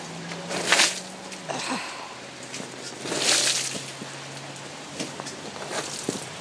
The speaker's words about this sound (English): So that is me pushing up with the broom handle on my gazebo top to get the water out.